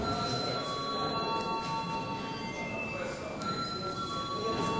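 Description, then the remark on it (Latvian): A parliament chamber bell rings continuously to call a vote on an alternative bill amending the law on archives, a steady, unbroken electric clang with a faint murmur of voices underneath. “Lūdzu zvanu.”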